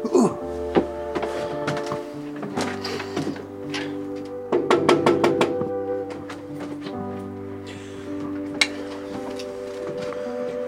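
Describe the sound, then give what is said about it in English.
A quick, even run of about six sharp knocks on the door of a house in Massachusetts, sounding over steady sustained musical tones that continue throughout. “Shall we knock on the door?”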